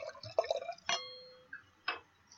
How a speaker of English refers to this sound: So I'm going to pour myself a little bit more because I've already drank half of a glass. I am too. And it's always so good to hear that noise.